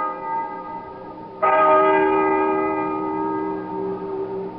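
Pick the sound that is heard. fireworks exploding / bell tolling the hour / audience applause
bell tolling the hour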